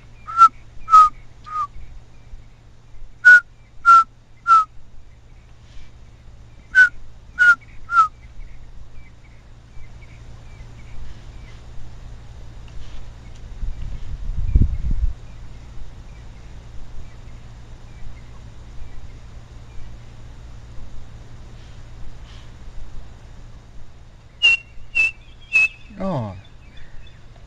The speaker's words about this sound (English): A little black and white bird with a chestnut band across its white breast, and it's got quite a characteristic call. I think keep the recorder running, because I think if we're lucky we might get to hear it. It makes a call, three blind mice.